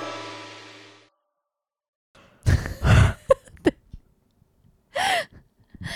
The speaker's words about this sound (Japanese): あくびから始まりましたが